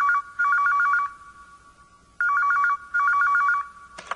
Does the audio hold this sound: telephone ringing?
yes